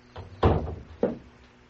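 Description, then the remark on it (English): A door is pushed shut, with a heavy thud followed about half a second later by a second, softer knock as it settles into the frame. No voices are heard. “Would you close the door?”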